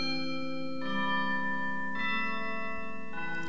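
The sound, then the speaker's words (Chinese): Christmas bells ring out in a steady, sustained chime, with new strikes arriving roughly every second and each tone lingering into the next. Loud and clear, with no voices. “小朋友，你听，这是什么钟声啊？啊，是圣诞钟声，快来，我们来欢迎主耶稣。”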